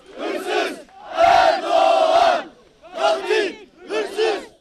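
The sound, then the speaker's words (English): A crowd of mourners at a funeral for victims in Istanbul, Turkey, chants angrily "Erdogan, thief, murderer" in loud, rhythmic bursts: four shouted phrases separated by brief pauses, many voices roaring together in unison. “Erdogan, thief, murderer, they cried.”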